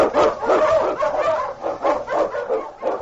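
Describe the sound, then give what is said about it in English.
A husky sled dog, King, an Eskimo lead dog in the Yukon, barks loudly and eagerly over and over, a quick run of excited yelps and bays, with no voices heard. “The Wonder Dog King, swiftest and strongest of Eskimo lead dogs, blazes a trail through storm and snow for Sergeant Preston as he meets the challenge of the Yukon.”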